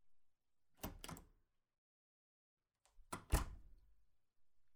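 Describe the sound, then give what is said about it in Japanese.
A door to a room opens as people go in, with a pair of mechanical clunks, a short pause, then another cluster of louder knocks and a thud as it swings and settles. No one speaks. “じゃあ、入ろう。”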